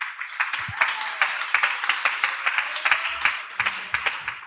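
An audience applauds to welcome a panelist, a dense, steady wash of many hands clapping at once, with sharper individual claps popping out of the texture. It holds at an even, moderate level throughout, with no talking.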